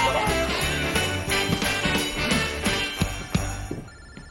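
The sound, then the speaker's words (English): A mobile phone on a bed in a cabin rings with a musical ringtone, a steady rhythmic tune that plays continuously at a fairly loud level with no voices over it. “gapes at her phone on her bed, then answers it.”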